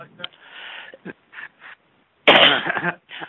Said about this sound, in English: you need to monitor your cough or your microphone.